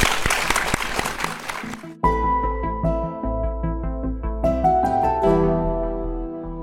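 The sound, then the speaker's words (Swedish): A burst of clapping applause fills the first couple of seconds, dense and fairly loud, then cuts off as a bright melodic music passage with low bass notes begins and plays on. “En stor applåd till Nathalie Lantz.”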